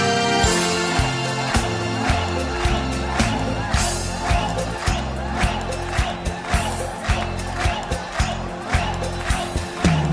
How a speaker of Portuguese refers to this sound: Alegria, minha gente! Quero ouvir só as palmas agora!